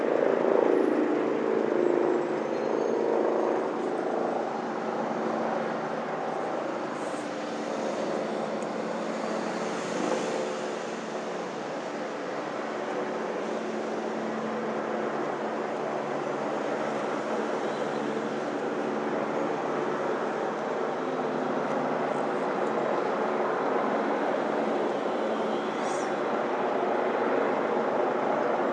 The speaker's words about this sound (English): which is taken in Westminster, next to what would usually be a fairly quiet park next to Horseferry Road, which today is rather noisy with police helicopters hovering overhead.